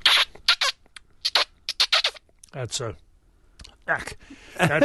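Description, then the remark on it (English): A person imitates a distressed mouse by sucking on the back of a hand, making a run of sharp, high, wet squeaks in short bursts, with a few brief voiced sounds among them. “That's a poor rendition, but you suck on the back of your hand a little bit, get this squeaking sound that sounds a little like a mouse in distress, or at least that's what it must sound like to a weasel, and they'll very often come out”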